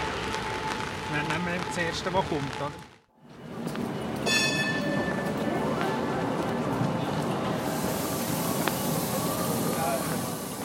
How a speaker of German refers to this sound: wir fahren jetzt hier im 3-Tram.